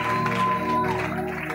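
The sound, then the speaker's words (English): A crowd claps steadily and densely through the whole moment, a continuous wash of applause with a sustained musical tone humming underneath. “I said, those who are clapping, may God bless you.”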